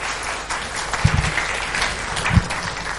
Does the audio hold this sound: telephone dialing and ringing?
no